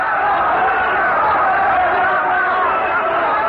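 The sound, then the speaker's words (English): A large crowd roars for a miracle from Savonarola in a dense, continuous wall of voices, loud and steady throughout, with no single speaker standing out from the mass of shouting. “But the crowd does not accept the explanation. They are roaring for a miracle in Savonarola again.”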